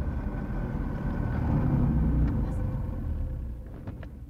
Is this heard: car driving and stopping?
yes